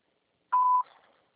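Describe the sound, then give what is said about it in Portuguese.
A single steady electronic beep of a phone voicemail box signalling the start of message recording, about a third of a second long, clear, followed by a brief fading reverberant tail. No voices are present. “Sua chamada está sendo encaminhada para a caixa de mensagem. Clique para a direita cobrança após o sinal. Após o sinal, grave sua mensagem.”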